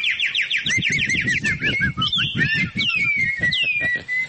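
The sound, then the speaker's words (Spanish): A bird chirps and trills continuously, with rapid repeated high notes and sweeping whistled phrases, clear over a low rumbling background. “¿Cómo canta el pajarito?”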